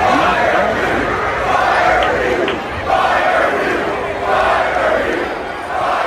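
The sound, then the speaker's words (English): A large crowd shouts angrily in a loud, continuous roar that swells in waves, with many voices overlapping into a dense, rowdy din throughout. “These bad takes have a crowd forming.”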